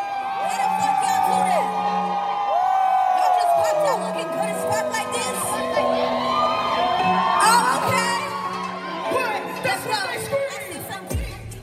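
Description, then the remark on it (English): A dense crowd at the Afropunk festival in Atlanta cheers and yells continuously for a performer on stage, many voices whooping, shouting and singing together in a loud, sustained wash of excitement that swells and dips without a break. “Everybody was like hyping her up, like yelling her name or just like singing the words to her song.”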